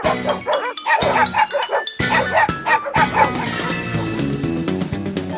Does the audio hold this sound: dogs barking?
yes